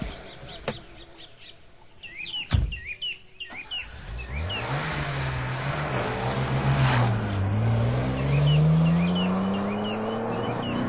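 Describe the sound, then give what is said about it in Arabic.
A luxury car's engine revs up and accelerates with a steadily climbing, droning pitch that grows louder, after a few birds chirp and a brief thump in the opening seconds. “امتلك سيارة فارهة.”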